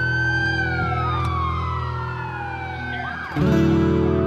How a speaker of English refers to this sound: After that, she goes and calls 911. I hear the ambulance is coming.